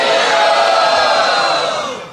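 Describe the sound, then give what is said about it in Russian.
A crowd, raising both hands, shouts the chant "Hari Bol!" together in one loud, sustained burst of many voices, holding for about two seconds before starting to fade. “Поднимите две руки и громко крикните «Хари Бол!».”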